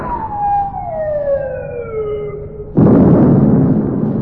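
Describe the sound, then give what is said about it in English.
A descending whistle of an incoming naval shell fired by a fleet falls in pitch for nearly three seconds, then a loud explosion bursts and rumbles on. No one speaks. “They're coming from the rest of the fleet. They're all banging off at us.”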